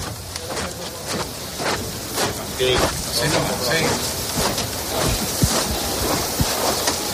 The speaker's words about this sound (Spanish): Oigo el racheo de los pasos.